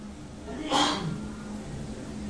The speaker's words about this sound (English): Daddy's sneezing, isn't he? Daddy's sneezing. Daddy's sneezing. That's right, Daddy's sneezing.